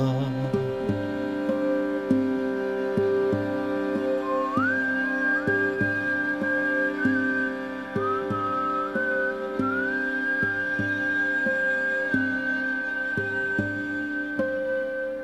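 A person whistles a wavering melodic line over steady sustained music with regular rhythmic plucks, the whistled tune sliding up and holding near the top as the piece winds down.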